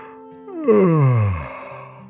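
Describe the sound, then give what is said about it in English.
A single drawn-out yawn voiced by a narrator for the story character Dragon, starting with a rising breath and sliding down into a low, groaning tail before fading out, fairly loud with no talking. “Dragon nodded and yawned as well.”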